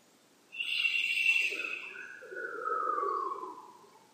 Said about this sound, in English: The other way to do this is almost silently, where I'm going to go through that right now and give you an idea of how that works. And I'm going to start with the shu sound.